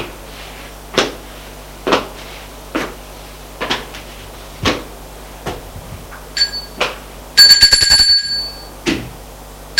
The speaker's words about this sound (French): va prendre l'ascenseur, il monte jusqu'au 4e étage, sort de l'ascenseur et va sonner à une porte.